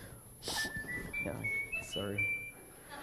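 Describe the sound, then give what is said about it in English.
A phone's whistle-style text alert, a clear rising whistled tone lasting a couple of seconds, sounding in a church in the morning while someone is talking. “All right, well, who's texting me that should be sitting in church here this morning?”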